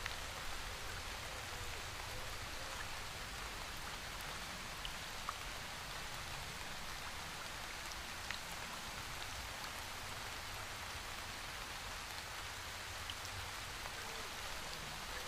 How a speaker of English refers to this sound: Turning your back towards the waterfall, you let it run over your shoulders as you admire the wonderful scenes of nature at its finest.